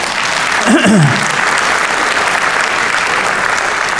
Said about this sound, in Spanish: Mire, hermano, eso es para gritarle, dar un aplauso a Dios por esa cuestión.